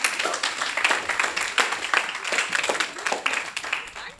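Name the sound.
applause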